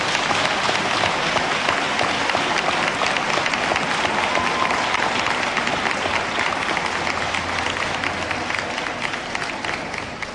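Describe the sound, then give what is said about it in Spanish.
Loud, sustained applause from a large crowd at a coronation and sash-presentation ceremony, a dense wash of clapping that holds steady for about ten seconds and tapers slightly at the end, with no one speaking over it. “Un fuerte aplauso.”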